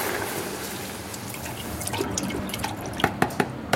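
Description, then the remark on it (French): Milk pours in a steady, hissing stream into a saucepan to make a Jerusalem artichoke purée, then tapers off into four or five sharp, separate drips at the end. No one speaks. “On prend une casserole. Je verse les litres de lait.”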